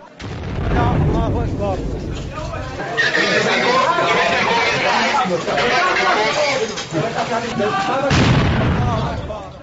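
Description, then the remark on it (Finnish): Gunfire crackles in sharp bursts amid a crowd of agitated voices, with heavier booms breaking through the constant chatter and shouting, during an evacuation and aid operation in the besieged old centre of Homs, Syria. “Myös auttajat joutuivat keskelle ammuskelua.”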